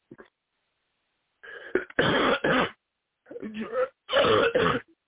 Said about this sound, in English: Excuse me, I have a bad cough